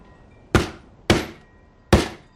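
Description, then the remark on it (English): A meat mallet pounds chicken breasts three times, each a heavy, dull thwack with a short ringing tail, spaced slightly unevenly. No voices accompany the blows. “Inside, Grace pounds chicken breasts with a mallet.”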